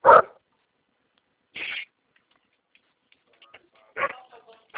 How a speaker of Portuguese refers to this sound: Nossa, aqui onde eu trabalho tinha um cachorrado e é complicado, hein?